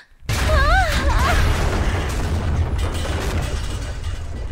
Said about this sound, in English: Erupting out on the side of her apartment block, Esme landed on the grass outside with a heavy thump, still growing from this new destruction of the wall.